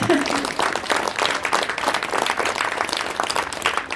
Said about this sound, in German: Insofern sind wir nur mit einer kleineren Mannschaft gelaufen, aber trotzdem vielen Dank, dass ihr erstmal alle gekommen seid. Applaus!